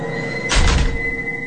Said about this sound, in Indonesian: Ketika aku bisa menggerakkan badanku dan aku langsung berlari keluar dari kamar jenazah menutup pintu sekeras mungkin.